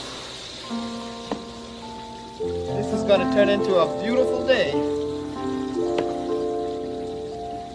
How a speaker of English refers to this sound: I'll put some more water in here.